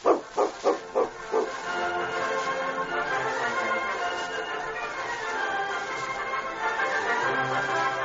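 In a radio drama, a dog standing guard over a man barks five times in quick, loud succession, then the barking gives way to a steady, hissing background noise that carries on to the end.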